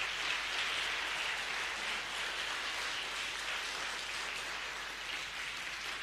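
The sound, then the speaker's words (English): A church audience claps for Jesus together in a dense, sustained wash of applause that stays steady and fairly loud for the whole stretch, with no voices rising above it. “Perhaps, okay, go ahead and walk, clap for Jesus.”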